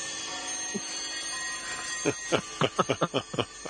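After a quiet stretch, an alarm played on air goes off as a fast, regular run of about nine sharp, loud beeps that carry on to the end.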